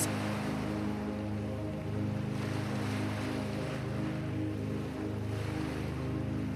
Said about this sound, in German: Das leise Rauschen der Wellen wird dich in den Schlaf singen.